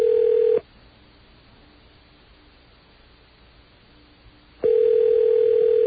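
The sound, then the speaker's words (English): Over a phone line, a call to a Dunkin' Donuts gets a steady electronic ringback tone that sounds twice, about four seconds apart, with faint line hiss in the pause between rings and no answer. “What's going on with Dunkin' Donuts? They don't answer their phones?”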